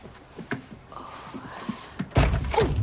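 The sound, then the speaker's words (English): A dull wooden thunk as a woman in a sleeping mask, crawling across a wooden floor, knocks her head against a bedroom door, followed by a louder, rattling bump and some shuffling as she fumbles for the door handle, with no voices. “She bumps her head on the bedroom door, then reaches up and clumsily fumbles for the door handle.”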